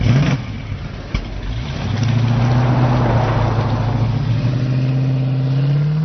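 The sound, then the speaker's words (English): An old, cheap car engine, a young driver's first car, sputters to life with a sharp click, then drones steadily and climbs in pitch as the car pulls away, loud, with no talking. “Well, it's his first car. It's supposed to be like that.”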